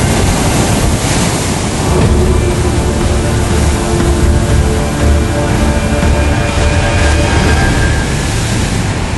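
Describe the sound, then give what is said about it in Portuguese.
Rough sea surf roars continuously against huge rocks on the coast of Uruguay, dense and loud, with steady wind buffeting the microphone and no voices. “A beleza da costa uruguaia é feita de mar agitado, água gelada, areia grossa e rochas enormes.”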